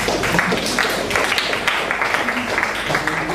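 A crowd applauds steadily for a few seconds, a dense wash of many hands clapping at once, fairly loud and close, with no clear individual claps standing out.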